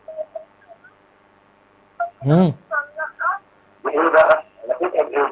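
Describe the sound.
A television plays in the background, heard thin and tinny over a phone line: brief tones, a quick warbling sweep, then bursts of muffled voices and sound.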